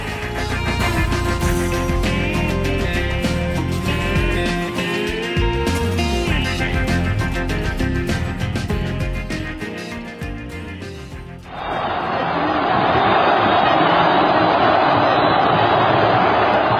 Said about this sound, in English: Sound behind us there from February 11th, just last year. Vast, euphoric crowd gathered in Cairo's Tahrir Square, celebrating the news then that Hosni Mubarak, the longtime dictator, had resigned from Egypt's